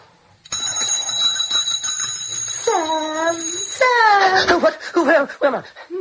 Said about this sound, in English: Why did you ring the bell?